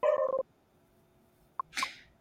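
A small dog named Bagel lets out a quick run of high, yappy barks, then after a pause a short click and one harsher, breathy bark. Nobody talks.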